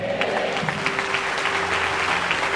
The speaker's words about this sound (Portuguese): Eu digo amém e aplaude ao rei.